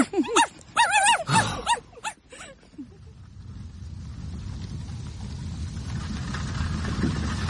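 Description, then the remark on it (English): Dogs bark and yelp in a quick run of loud bursts for about two seconds, then give way to a steady low rumble of wind and engine noise. “Oh, confound these dogs!”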